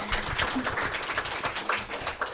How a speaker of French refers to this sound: On applaudit bien fort